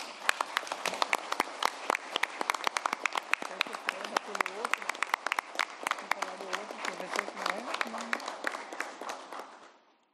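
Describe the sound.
A round of applause from a group at a session of the municipal legislature of Juína: dense, crackling clapping that runs steadily for about ten seconds, then fades out, with faint voices murmuring underneath.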